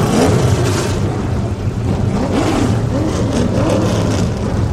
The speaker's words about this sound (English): As the minister finishes the opening prayer, fans raise their heads, awaiting the familiar roar of the engines. Driver, start them up!